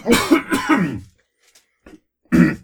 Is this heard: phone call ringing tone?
no